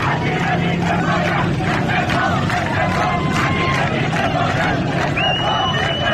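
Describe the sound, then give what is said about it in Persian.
A loud crowd of protesters in the city of Rey, with police vehicles at the scene, chants slogans in unison, "incompetent minister, resign, resign", voices rising and falling in a steady rhythmic beat, with a brief high whistle-like tone near the end. “در شهر ری نیز مردم معترض با وجود خودروهای پلیس در محل شعار سر دادند: وزیر بیکفایت، استعفا، استعفا.”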